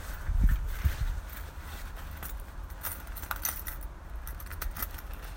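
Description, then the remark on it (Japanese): House keys jangle and clink in short, bright bursts as someone arriving home handles them, with a few soft thumps early on and low background rumble; no one speaks. “あれ、鍵。”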